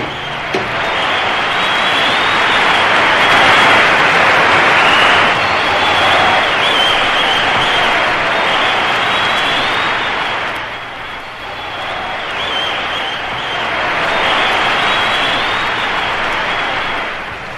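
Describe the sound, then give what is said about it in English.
A large crowd of scientists and technicians at Lunar Central colony claps and cheers, greeting new arrivals, in a loud, dense, continuous roar that holds steady, dips briefly partway through, then swells again. “The crowd of scientists and technicians are going wild. What a space ovation!”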